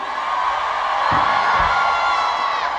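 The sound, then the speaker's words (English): A large crowd screams and cheers in a loud, sustained roar, with dense high-pitched shrieks and whoops blending into a continuous wall of noise and a few low thumps underneath. “Scream!”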